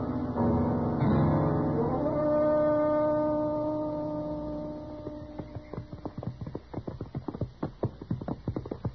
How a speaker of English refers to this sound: I've just been exercising my horse a little, you know.